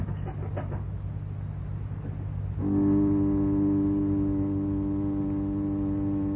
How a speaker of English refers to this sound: The elevator is starting now. Yeah, and he's only got one floor to come.